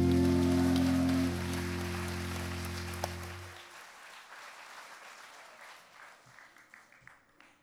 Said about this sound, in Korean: 박수치기가 잘 안 맞지요?